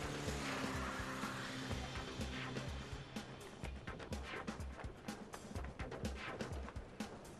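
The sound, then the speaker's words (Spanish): A car engine roars loudly as it is started, then the vehicle accelerates away amid rushing noise and a scatter of sharp knocks and rattles. “¡Enciende el auto, Mamal! ¡Acelera!”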